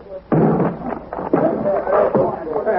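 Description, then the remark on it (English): A door is battered down with about three loud, heavy crashing blows, each a booming splintering impact, while voices call out between and over the hits. “Guess you'll have to break the door down.”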